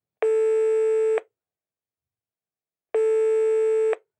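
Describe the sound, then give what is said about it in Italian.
Telephone ringback tones while a call waits to connect: two steady, buzzy electronic tones, each about a second long, separated by a pause of silence. Clear, with no voices. “Prima notizia, fatemi fare una telefonata veloce.”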